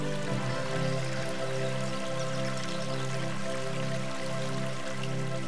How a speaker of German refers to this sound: Du hörst das Plätschern des Baches und folgst ihm.